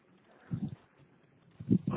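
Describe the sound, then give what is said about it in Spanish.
Horse hooves clip-clop past in two short pairs of dull, muffled knocks, separated by a brief quiet stretch, heard over a thin, band-limited line with faint background hiss and no talking. “Pues pasaba ese caballo.”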